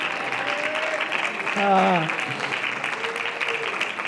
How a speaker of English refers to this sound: Clap your hands and just magnify the Lord for a little while.